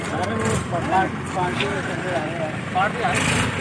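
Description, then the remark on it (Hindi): A tractor engine rumbles steadily and loudly throughout as a group of people turn the tractor around, while a man speaks over it the whole time. “तो यार गाइस आप देख सकते हो काफ़ी बड़ी गैंग लग रही है इनकी, और देख सकते हो यार गाइस ट्रैक्टर को कैसे घुमाए इन लोगों ने।”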